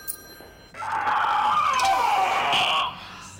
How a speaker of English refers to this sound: We heard a scream. That was my headache. You sound like you're in a great deal of pain.